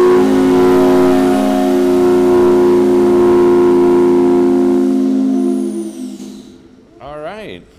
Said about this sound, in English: They counted on the factory whistle to let them know what time it was throughout the day. Here we go. It's 9:30, so go ahead and pull the whistle. Pull it hard.